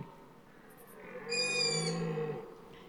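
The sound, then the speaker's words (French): A tawny owl hoots once in a forest in autumn, a drawn-out, wavering call lasting about a second, over the low, steady groaning bell of a rutting stag in an otherwise quiet night background. “Vous entendez la hulotte qui n'est pas dérangée par le cerf.”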